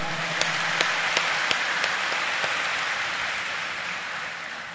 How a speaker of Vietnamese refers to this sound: Và chắc hẳn là chúng ta không tiếc một nụ cười và một tràng vỗ tay nữa để dành cho nhau.